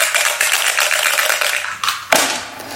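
Dice clatter and rattle continuously in a bright, busy jumble of clicks, ending with a couple of sharper knocks as they settle. No voices are heard.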